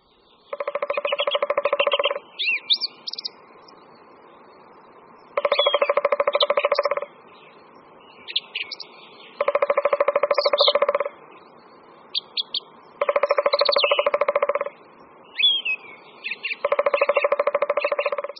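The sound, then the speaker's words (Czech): A three-toed woodpecker drums in five rapid, even rolls, each lasting under two seconds, spaced a few seconds apart, with soft high bird chirps between bursts and no talking. “V ostatních horách České republiky se totiž datlík tříprstý, kterého jsme právě poslouchali, vůbec nevyskytuje nebo jen”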